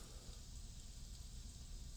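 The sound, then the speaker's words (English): A steady, quiet wash of rain from a recording, a continuous soft hiss with a low rumble underneath and no distinct drops or pauses. No one speaks. “You like the rain one? Okay. Okay, we'll put that on.”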